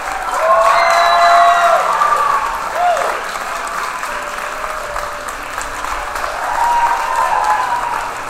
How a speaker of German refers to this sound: Was auf jeden Fall nach jeder einzelnen Vorstellung der Temeswarer Nils blieb, war der anhaltende, mutmachende, dankbare Applaus aus dem Publikum.